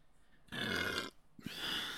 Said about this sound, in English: Whoa. That burp was in 4K, guys. 4K. Belch. What can I say? Better out than in.